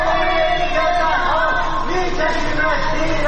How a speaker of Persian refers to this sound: در حالی که ساکنان شهرک‌های چیتگر و سروازاد تهران شامگاه شنبه تجمع اعتراضی برگزار کردند، از خانه‌ها و مجتمع‌های مسکونی در منطقه‌های جنت‌آباد و بلوار مرزداران صدای شعارهای ضد حکومتی به گوش می‌رسید.